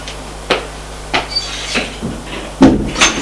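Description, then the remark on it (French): An apartment door being shut: a run of about six sharp wooden clunks and rattles at uneven intervals, the loudest one near the end, with no voices. “Une fois qu'elle est partie, pour enfermer la porte de l'appartement,”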